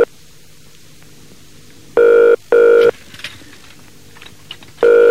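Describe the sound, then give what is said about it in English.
A phone call to a colleague rings out unanswered with a repeated electronic ringback tone, two close bursts then a pause before another begins, with faint clicks and light tapping in the quiet gaps. “See, now he doesn't answer the phone.”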